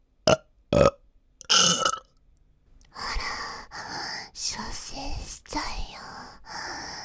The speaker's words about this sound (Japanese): またゲップされちゃうよ。